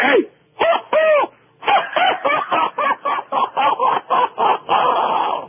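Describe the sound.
A man's voice lets out a rapid, rhythmic cackling laugh that imitates a clucking chicken, a burst of short choppy pulses, close and loud, ending in a drawn-out cackle.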